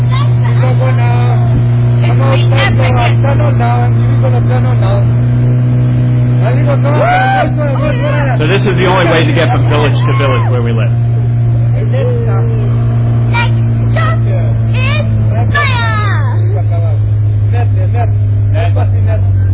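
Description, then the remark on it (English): A motorboat engine drones steadily and loudly the whole time, a constant low hum, on a jungle river during a boat trip from Moka to an airstrip, while a man talks over it and other voices chatter in the background. “So this is one of the trips from Moka to that airstrip that I just mentioned. We got to take a boat.”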